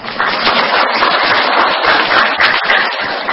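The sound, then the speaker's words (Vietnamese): A crowd at a Buddhist retreat applauds steadily, many hands clapping in a dense, crackling wash that holds at an even loudness for a few seconds with no voices over it. “Có quà cái vỗ tay à.”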